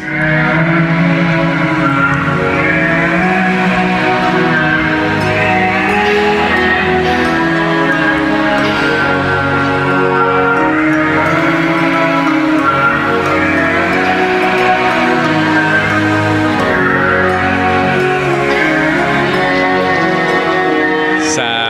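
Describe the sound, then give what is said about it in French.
Whale calls from Labrador, Canada, recorded underwater with special microphones: layered, sustained moans and higher cries that bend in pitch, overlapping densely and loudly for the whole stretch, with no talking. “Donc, évidemment, ils ont enregistré quelques cris de baleine.”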